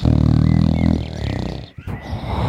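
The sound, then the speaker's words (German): A voice imitates a giant's loud, deep snoring that shakes the whole house: a long rumbling, growly snore, then a rougher, breathier snort as the breath turns over. “Und dann fängt er an zu schnarchen.”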